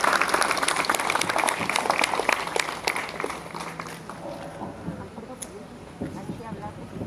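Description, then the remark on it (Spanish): A group applauds the collective Hecho en Santocho with dense, steady clapping that thins out and fades after about four seconds, leaving scattered claps and a soft murmur of voices. “Entonces, pues en primer lugar, vamos a pedirle a un compañero o vecino, vecina del colectivo Hecho en Santocho, que si puede pasar un aplauso para este colectivo que también recupera la historia de nuestra colonia.”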